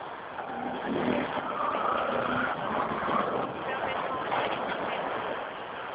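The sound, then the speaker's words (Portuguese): A single car rolls past on an otherwise empty street in Piedade, its steady engine and tire rumble holding at a moderate level throughout while voices talk over it. “Não, tá vazio, não tem mais ninguém, só tem um carro passando.”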